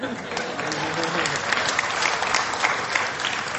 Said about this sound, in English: You can clap to that.